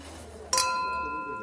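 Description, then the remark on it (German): Three glasses of wine clink together once in a toast, a bright chime whose clear ringing tone lingers and slowly fades over a quiet murmur. “Prosit, Prost.”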